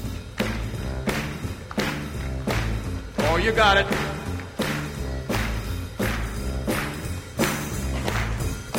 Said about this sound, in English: All right, you ready? A little hand clapping.